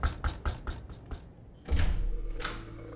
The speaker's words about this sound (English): Just then, we arrived at Dr. Barrett's place and I knocked on the door.